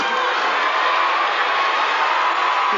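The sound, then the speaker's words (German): A large audience at a music awards ceremony on the US West Coast whistles and boos a presenter in a dense, continuous roar that stays loud and steady throughout, with no single voice standing out from the crowd. “Viele der Zuschauer pfeifen und buhen.”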